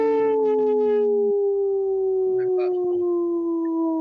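Dr. Stately's wolf dogs howl together in long, sustained, overlapping tones that slide slowly downward, a loud chorus of several voices with occasional short yips breaking through, and no talking.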